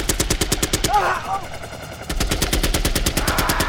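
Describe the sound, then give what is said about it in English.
Loud chain gun fire from deathbirds swooping over the ship Starseeker, bullets chewing across the deck and punching holes in the sailcloth, in two long, rapid bursts of evenly spaced sharp reports, broken by a short pause where a faint wavering tone rises and falls. “Bullets from the chain guns chewed across the deck and punched holes in the sailcloth.”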